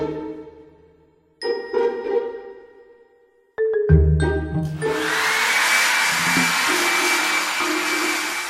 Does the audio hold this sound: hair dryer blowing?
yes